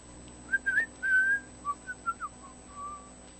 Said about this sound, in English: I apologize for whistling in the speaker. That is bad form. I apologize for that. Because that comes in very high and loud, and I don't mean to do that.